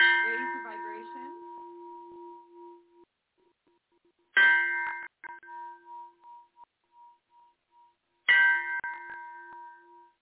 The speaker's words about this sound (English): And I'm just going to share. I'm going to use a Tibetan bell. Love this thing.